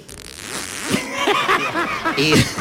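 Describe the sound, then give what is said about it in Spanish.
A voice imitates a handbag zipper being pulled open: a continuous, buzzy, raspy run of rapid voiced pulses lasting a couple of seconds, fairly loud and rising slightly in brightness toward the end. “Y por le favor, ¿puedes repetir el ruido de la cremallera?”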